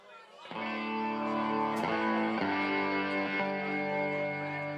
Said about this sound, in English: Now that's rock and roll. Now we're rocking. More distortion.